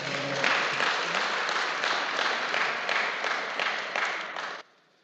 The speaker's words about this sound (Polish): Także brawa